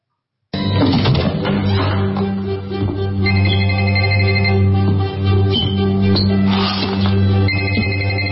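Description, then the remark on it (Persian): A telephone rings loudly and continuously, an electronic melodic ringtone with steady tones that repeats for several seconds, with no voices. “الان تلفن داره زنگ میخوره.”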